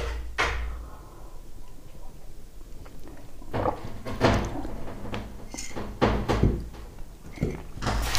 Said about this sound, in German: Ah, bist du dämlich? Macht ja schon wieder die Tür zu. Ach, mein Kater, du bist so dämlich und bescheuert.